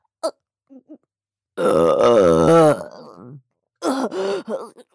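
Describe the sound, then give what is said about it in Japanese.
A long, loud, drawn-out burp after drinking alcohol, bracketed by a few short throaty vocal sounds and a brief groan-like utterance afterward. “またゲップが口から出るたびに感じてしまう。”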